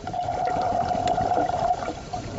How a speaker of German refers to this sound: Geräusche aus einer anderen Welt. Dumpfes Gemurmel aus dem Meeresgrund. Männer in Taucheranzügen verständigen sich per Zeichensprache. Blasen steigen auf.